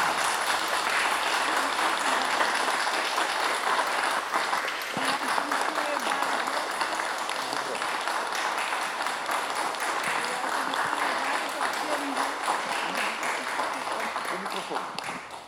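Sustained applause from a crowd for a benefactor being thanked by a priest, a dense steady patter of many hands clapping at an even loudness for about fifteen seconds before starting to fade at the end.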